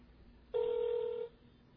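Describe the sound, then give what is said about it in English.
A cell phone call rings over a microphone at a church: one steady electronic ring tone lasting under a second, fairly clear, with quiet background hum and no voices. “You can hear it ringing, so it's working.”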